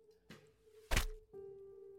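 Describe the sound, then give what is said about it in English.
A sharp, heavy thud of a black-and-blue-fletched projectile striking near the middle, followed by a resonant twanging hum that rings on steadily, like an arrow quivering in wood, with no voices. “As this happens, you hear a twanging thud.”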